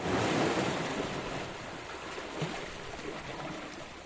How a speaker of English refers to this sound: I am out on a rocky outcrop on the Atlantic Ocean. That is how the islanders describe Inishere, the smallest of the three Aran Islands.